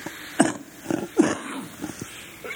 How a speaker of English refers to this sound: Excuse me. I didn't clear my throat before starting today.